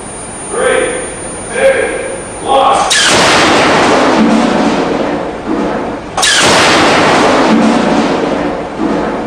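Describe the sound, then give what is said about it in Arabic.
After a short stretch of voice, a wooden plank fired at 100 miles per hour slams into a wooden wall with a loud, sharp crack, in a projectile damage test at a wind engineering laboratory in Lubbock, Texas. A sustained roaring rush follows, and a second forceful crack strikes a few seconds later. “تثقب قطعة من الخشب تنطلق بسرعة 100 ميل في الساعة هذا الجدار الخشبي.”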